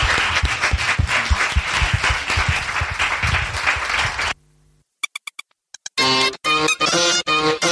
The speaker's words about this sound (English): Everybody, can we just give them all a massive round of applause? Thank you all so much.